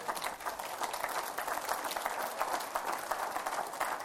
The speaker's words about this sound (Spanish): Yo creo que el Padre dice, denle un aplauso. A ver, todos mis ángeles, denle un aplauso a esta mujer valiente.